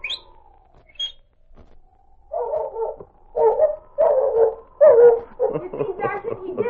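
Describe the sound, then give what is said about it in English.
A short descending whistle with a couple of high chirps calls the dog Smokey, who then performs on cue with a run of loud, repeated barks and whimpering yelps, about a dozen in quick succession. “Smokey's a fine dog”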